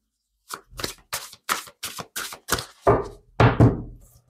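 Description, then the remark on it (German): A quick series of about seven crisp flicks and snaps of tarot cards being drawn, evenly spaced, followed by two louder rustling slaps as three tarot cards are laid down, with no talking. “So, nehmen wir mal noch drei Karten.”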